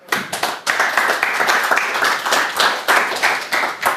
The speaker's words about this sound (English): So, please give him a warm round of applause.